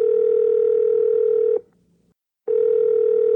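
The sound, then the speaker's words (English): A steady, mid-pitched telephone tone hums for about a second and a half while a phone call is being placed, cuts to silence for nearly a second, then starts again at the same even level, with no voices. “So we're going to call her up.”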